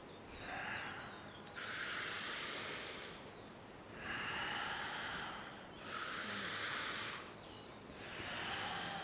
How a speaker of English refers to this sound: Breathe deeper than you have been. Really get the oxygen going. Really breathing in deeper than you've been breathing. Deepest breaths.